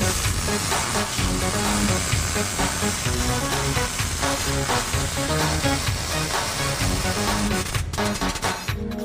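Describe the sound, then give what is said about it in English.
A welder runs a steady bead on a piece of armor plate in a car, giving off a loud, continuous crackling sizzle, with a constant hum beneath it. The arc carries on without a break, and no one speaks. “let's weld this piece of armor plate here in the car.”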